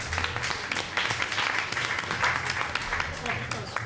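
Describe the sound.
A crowd applauds steadily, a dense wash of many hands clapping at a fairly even loudness for the whole stretch, with some indistinct voices mixed into the noise.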